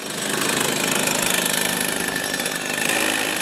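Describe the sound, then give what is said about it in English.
A small go-kart engine is warmed up before a practice session for the world championships. It runs steadily with a loud, buzzing, rattly drone that holds a constant pitch, with a faint rapid pulse throughout, and no one speaking. “Lance warms the kart engine up before another practice for the world champs.”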